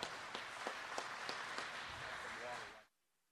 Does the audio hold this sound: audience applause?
yes